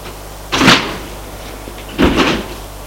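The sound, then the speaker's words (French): A house door opens as a man runs out, then closes about a second and a half later: two short, fairly loud wooden thuds with a rattle, with no talking. “Et sort de la maison.”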